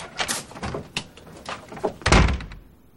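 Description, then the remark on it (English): A door is handled with a few light knocks and clicks, then shut with one loud, heavy thud as someone walks out, briefly rumbling before the room goes quiet. No one speaks. “Wait till you realize I just went out that door and I'm not coming back.”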